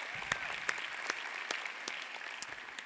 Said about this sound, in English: Let's clap for all the visitors in North County.